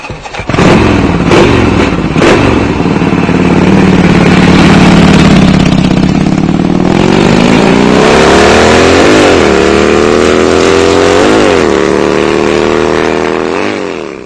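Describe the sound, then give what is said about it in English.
A motorcycle engine starts up, settles into a rough idle, then revs repeatedly, its pitch climbing and dropping in several loud surges. “You know how they've got one of those three-wheeled motorcycles?”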